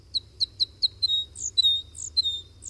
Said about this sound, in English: North America's two crossbill species, white-winged and red, are vagabonds, wandering in flocks until they find a suitable cone crop, where they might then stop to breed in small groups almost any time of year.